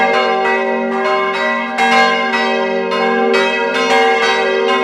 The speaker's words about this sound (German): Der läuft automatisch, muss niemand was drücken, damit die hier losbimmeln.